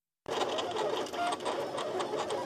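A vinyl cutter cutting out a map of Switzerland at the Test Lab runs, its motor giving a steady, busy mechanical whir with small shifting tones and clicks, continuous for a couple of seconds with no voices.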